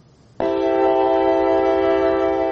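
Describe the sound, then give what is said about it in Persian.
After a moment of low background hum, a passenger train's horn sounds suddenly and loudly, holding one steady, rich blast through to the end, at Dushanbe railway station. The train runs between Dushanbe and Volgograd. “قطاره کلوب ولگاگراد صبح روز 16 آگوست به دوشنبه رسید و نزدیک ظهر از دوشنبه به سمت ولگاگراد حرکت کرد.”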